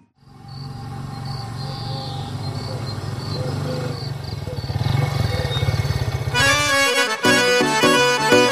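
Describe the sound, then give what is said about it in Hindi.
A motorcycle engine drones steadily for several seconds, its buzzy rumble swelling louder and revving higher, before music abruptly takes over near the end. “मन्ने सुनया तेरी भतीजी मोटरसाइकिल पे कॉलेज जावे से।”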